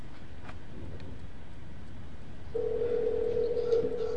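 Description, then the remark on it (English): A steady, unbroken telephone dial tone cuts in about halfway through after a dropped call and holds to the end, fairly loud over a low, rumbling background hiss, with no one speaking. “We lost. The call.”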